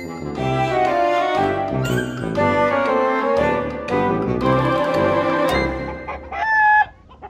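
Several chickens cluck and squawk loudly and continuously at close range, their overlapping calls forming a busy barnyard chorus, ending with one rising, drawn-out cry.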